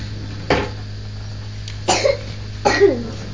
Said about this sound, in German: Der doofe Husten.